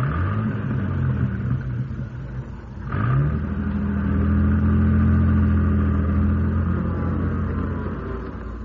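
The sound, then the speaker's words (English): An old car (a jalopy) engine rumbles steadily, dips briefly, then revs up with a rising pitch and settles into a strong, sustained drone as it is driven across a road. No voices are heard. “Drive this car across the road”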